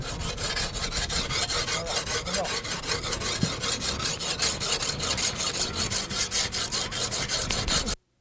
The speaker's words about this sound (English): How long have they been cutting up this whale? Do you know that? What? How long have they been cutting up this whale? Well, they're probably... Probably 6 hours, I think, altogether.